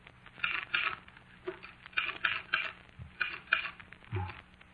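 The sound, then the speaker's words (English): Keys are pressed on a keyboard with one hand in slow, uneven bursts, a few clicks at a time with short pauses between. The clacking is fairly quiet, with no voices. “Painfully, oh, so painfully, I got one hand on the keyboard. The letters were blurred. But I found them.”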